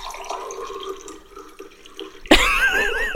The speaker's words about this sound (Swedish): Det här ljudet, jag ska ta fram det. Nu ska vi se här. Pouring coffee sound effect.